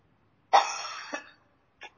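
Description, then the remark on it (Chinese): A child gives one rough, drawn-out cough that breaks into a short second burst, followed a moment later by a brief throat-clearing sound, fairly loud with no talking. “没事没事，这个咳嗽没事啊。”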